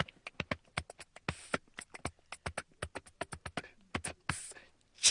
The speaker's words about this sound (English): That's amazing. This guy is making this music just with himself, with his body. Just with his body, with every single part of his body. What you just heard was him slapping his cheek.